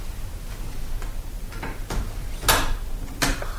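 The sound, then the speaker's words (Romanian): A door is eased slightly ajar in a few short creaking, scraping bursts, the strongest two near the end, with a low rumbling background and no voices. “Taci, întredeschid ușa.”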